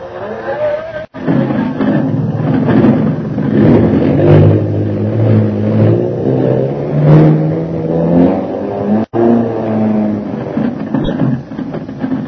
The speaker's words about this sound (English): after getting the airplane repaired, Jungle Jim, Hawkins, and Kolo prepare to take off from Mandalay. Turn the motors over, pilot.